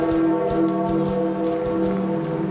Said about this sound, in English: The bell tolling for Pope Francis at the conclusion of his funeral in St. Peter's Square.